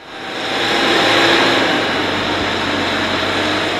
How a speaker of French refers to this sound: Vous êtes en train de manœuvrer avec cette espèce de tracteur. Qu'est-ce que vous êtes en train de faire exactement ? On alimente en matériel pour le montage de la scène.